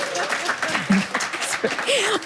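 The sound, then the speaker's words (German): A crowd applauds steadily for a couple of seconds, a dense wash of clapping with scattered voices and brief whoops rising through it. “Großer Applaus.”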